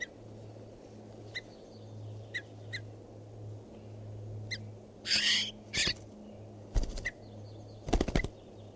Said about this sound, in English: So recording, this is bird 519.